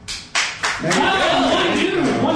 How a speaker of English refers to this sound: Applaud.